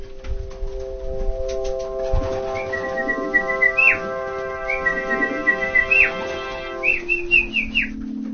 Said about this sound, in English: shouting and whistling to keep them airborne, because that's their training. And these guys around the neighborhood would see me sitting on the roof with my flag, and that's calling these birds.